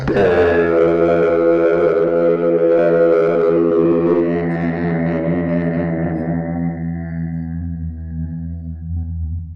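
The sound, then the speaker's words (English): A large, about 8-foot-tall bronze bell at a shrine is struck once by a big iron-bound log hung from the roof and swung into it, releasing a deep, resonant boom with layered humming overtones that sustains loudly and slowly fades over several seconds. “And you swing the thing back and thrust it down and it falls in, hits the bell with a...”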